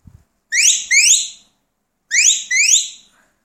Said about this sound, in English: Now we move to the away to me whistle.